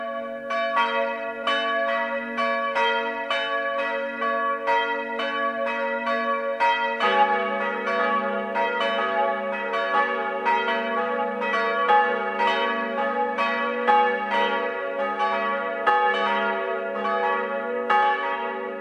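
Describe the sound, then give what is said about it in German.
Church bells of the parish church of St. Leonhard in Kreuth, Upper Bavaria, Germany, ring the full 12 o'clock midday peal, several bells overlapping in a dense, continuous tumble of strikes with long ringing overtones, steady and fairly loud throughout with no voices. “Das Mittagsläuten kommt heute aus Kreuth in Oberbayern.”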